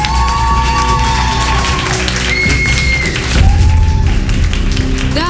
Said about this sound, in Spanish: ¡Aplauso para el equipo de las chicas!